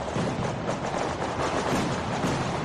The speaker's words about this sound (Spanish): La plaza abarrotada como cada año, y ya para escuchar finalmente el estruendo final que marca el fin de fiestas 2024. Más de 1000 cohetes precedían a la traca que lanzaban las peñas recreativas.